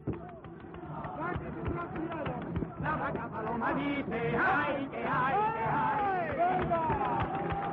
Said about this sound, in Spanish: Sevillana en honor de la Blanca Paloma, que es coreada y aplaudida por todos.